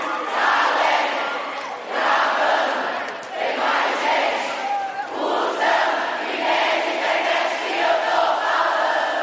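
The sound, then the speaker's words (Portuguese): A large concert crowd sings and shouts along loudly in unison, a dense, continuous wall of voices with rhythmic swells, heard from within the audience. “Mais forte, mais forte, mano!”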